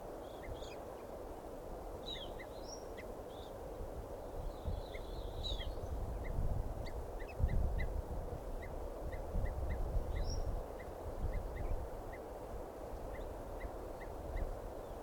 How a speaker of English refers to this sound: Recording here the calls of an evening grosbeak.